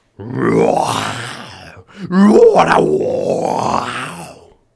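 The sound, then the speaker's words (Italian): A person imitates a lion's roar with their voice: two long, loud, guttural growls, the second rising into a strained, higher cry before trailing off. “Ma non fa in tempo a dirlo che quello fa un ruggito e diventa un leone.”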